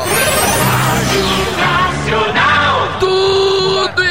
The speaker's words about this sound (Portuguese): Ele tá na parada do Vascão. E ele, a galera grita: eu te amo, Manga.